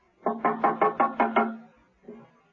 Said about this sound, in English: Steed's front door was open. She knocked and entered.